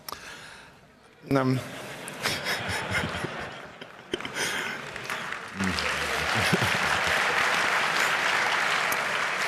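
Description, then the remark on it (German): An audience claps steadily for a speaker at the start of a talk, the applause swelling into a dense, continuous patter that builds louder toward the end, with a few brief voiced sounds breaking through early on. “Also wenn jetzt die ganze Zeit klatscht, dann komme ich mit meinen 72 Folien nicht voran.”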